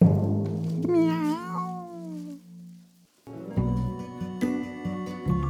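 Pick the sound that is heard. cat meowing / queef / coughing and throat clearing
cat meowing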